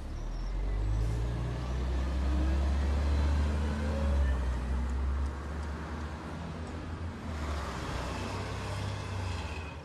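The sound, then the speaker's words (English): A bus rumbles along with a steady low engine drone, its deep hum rising and falling slightly as it drives, with a brief hiss partway through and faint background noise. “Not a surprise for two men in women's clothes and a large bear riding a bus together.”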